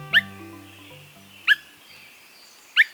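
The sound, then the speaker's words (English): Three short, clear whistled 'whit' calls of a Swainson's thrush, each a quick upward-bending note, spaced about every second and a half over a soft musical background, with no talking. “When Swainson's thrushes first returned to nest in the woods of the West, or the northern states in Canada, they announced their presence with subtle calls. Limpid whit or wink sounds.”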